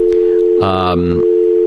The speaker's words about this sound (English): All right, now, let's enter one of the lines here, the studio line. Whoops, dial tone timed out.